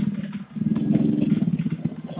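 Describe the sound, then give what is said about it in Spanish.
A motorcycle engine idles with a steady, low, chugging rumble and slight clattering pulses throughout, fairly loud and continuous with no speech. “Disculpe, no le escuché bien por el ¿Sí? sonido de la moto.”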